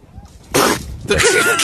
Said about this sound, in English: What is this? I don't know what this is. It's a seal breathing. You got mine? Yeah, it's on mine. Oh, I'm sorry. The seal making fart sounds with its face.